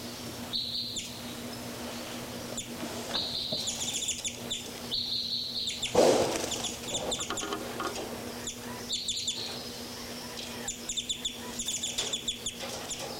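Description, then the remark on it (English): Birds identified as 3-3 and 5-9, flying around, chirp and call in repeated high, bright bursts with short pauses between, over a steady low hum, with one louder, harsher call partway through. “Birds 3, 3, and 5, 9 are flying around here. More birds, 5, 9 more active here.”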